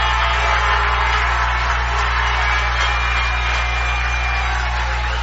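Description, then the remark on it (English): A loud, steady roar of a stadium crowd cheering on its feet at a football game as the Jackets defense stops a Wildcats run for a short gain, a dense wash of voices that holds for the whole stretch over a low constant hum, with no clear individual shouts or speech. “Once again, the crowd fired up on their feet as the Jackets come up with another good play, stringing out Alvarado, and it'll probably be another 1 yard gain.”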